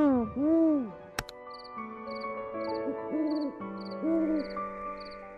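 Several Eurasian eagle owls in a tree in Kikinda, Serbia, hoot to one another at night in deep, rounded calls at an uneven pace, with a sharp click early on and faint, regular high-pitched chirps in the background.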